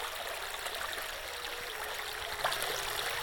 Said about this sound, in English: I find you once again here at the river's edge. It's been a long time. We're back from oblivion. Back together here, standing where the waters rush by our toes so fast.